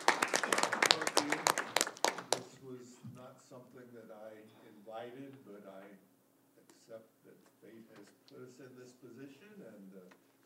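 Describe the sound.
A loud burst of group clapping, many hands beating quickly for about two seconds before it stops abruptly and people begin talking.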